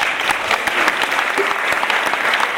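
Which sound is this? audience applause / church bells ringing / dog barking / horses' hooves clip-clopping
audience applause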